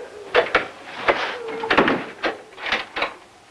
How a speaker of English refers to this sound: She walks out, shutting the door.